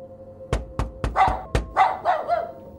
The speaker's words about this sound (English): So he's at the door immediately, the dog's barking, and I just kind of like slide in, like, so now I'm inside the house.